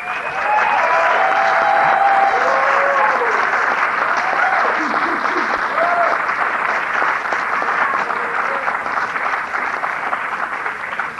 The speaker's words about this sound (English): I want to first, I think that the entire PENSAPA committee and everyone that had a part to play in putting on this event deserves a really special round of applause.